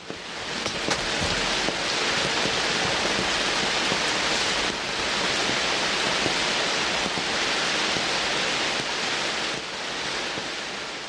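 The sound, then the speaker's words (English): Steady rain falls, a dense hiss of countless tiny patters and drips that holds an even, loud level throughout with no voices. “And now it's raining, so a cold trudge back to the boat.”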